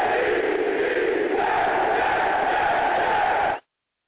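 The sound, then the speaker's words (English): A studio audience cheers and claps loudly in a dense, continuous roar of voices and applause that holds steady for about three and a half seconds, then cuts off abruptly. “But I need to let my studio audience know, slow down on the extra clapping.”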